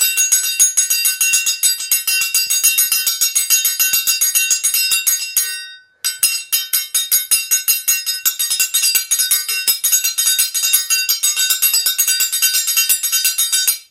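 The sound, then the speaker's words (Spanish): Rapid, bright metallic clinking of scissors-dance blades struck in a steady, driving rhythm, loud and ringing, with a brief pause midway before the clanging resumes; no voices. “verdadero virtuoso de las tijeras, ¿no?”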